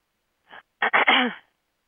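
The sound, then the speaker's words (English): A fairly loud throat clearing: a short soft catch, then a couple of quick rough bursts running into a longer voiced rasp, with no talking around it. “Tonight, as we work, we're going to be doing a lot of clearing, which means sometimes I have to clear my throat a lot because a lot of us have a lot of fear around presenting who and what we are and being okay with the desires that arise.”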